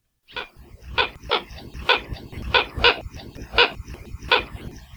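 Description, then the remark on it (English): A Hawaiian coot (Ale keokeo), an endangered water bird endemic to Hawaii, gives a steady series of about nine harsh, barking clucks, roughly two per second, fairly loud over a low background rumble, with no talking. Recording from the Macaulay Library at Cornell Laboratory of Ornithology. “But we've got its call for you today, courtesy of the Macaulay Library at Cornell Laboratory of Ornithology.”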